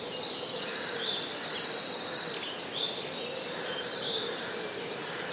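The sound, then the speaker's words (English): An early-morning dawn chorus in a native woodland in County Cavan: many birds singing at once, overlapping high chirps, trills and warbles forming a steady, dense wash of birdsong with no voices. “So this morning we went very early to listen to the dawn chorus in a native woodland in County Cavan, and I wonder how many birds you can hear.”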